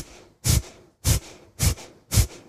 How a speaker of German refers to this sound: Ich weiß nicht, ob ihr Kapalabhati kennt, man atmet ganz kräftig aus durch die Nase und zieht dabei den Unterbauch bis unter den Rippenbogen, zum Beispiel so, ne?